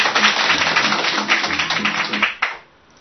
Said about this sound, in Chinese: 那所以我们也给自己一个掌声鼓励好吗？谢谢。